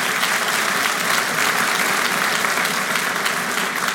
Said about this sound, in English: Anyway, everyone want to clap for that.